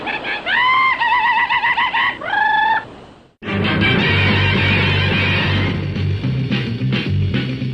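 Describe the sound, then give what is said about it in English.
Loud chicken-like calls: a few drawn-out, wavering squawks in quick succession, then a dense, noisy burst of clucking and squawking that carries on without pause. “Sometimes those bird calls and cat calls are perfectly.”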